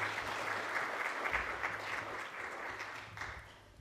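An audience applauds steadily, a dense wash of overlapping claps that stays fairly even and sustained, without any speech over it.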